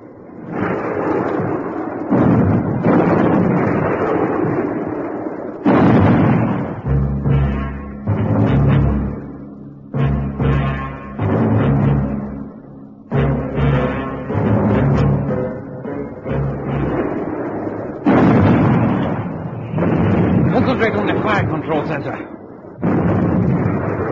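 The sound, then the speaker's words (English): Heavy naval gunfire booms again and again in loud, rumbling bursts as a ship opens fire on the Sydney, with shell explosions crashing amid a dense, continuous roar of battle and shouted voices. “Up, battle flag! Down, gun shields! Commence firing!”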